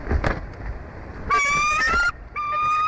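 An eagle calls twice at its nest on a live stream as Shadow flies in with a fish for Jackie: loud sustained cries with a slightly rising, strained pitch, the second following a short pause, over a low rumbling background of wind and outdoor noise.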